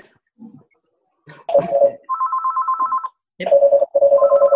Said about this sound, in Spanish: ¿Qué ha pasado? No, un teléfono. ¿Qué es eso? Es un teléfono que ha sonado.